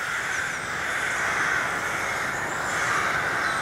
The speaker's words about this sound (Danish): Råger. Ja, ikke bare én, men flere råger. Og det tror jeg faktisk selv, jeg ville kunne høre. Ja. Og han skriver, vi bor ud til et lille stykke skov, hvor vi en måneds tid her til efteråret får besøg af tusindvis af råger om morgenen i en times tid.